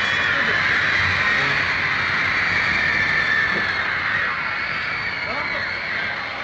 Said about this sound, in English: On February 11th, they did their first live U.S. concert at the Washington Coliseum with …, …, and … in front of 20,000 screaming fans.